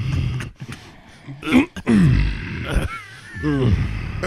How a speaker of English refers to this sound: You hear little burps coming out.